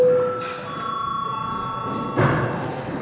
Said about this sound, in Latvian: Lūdzu zvanu.